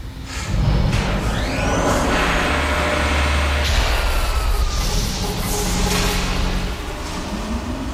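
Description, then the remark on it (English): A heavy freight train rumbles, loud and continuous, with metallic squeals and hissing air brakes rising over the deep grinding roar. “You ever jump a freight train?”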